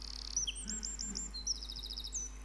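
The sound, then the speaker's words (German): A Eurasian wren, a small songbird, delivers a rapid, high-pitched song of fast trills and sharp chirping notes, loud, with a low hum in the background and no voices. “Ich weiß nicht, ob das technisch geht, aber ich spiele euch mal vor. Habt ihr schon mal einen Zaunkönig?”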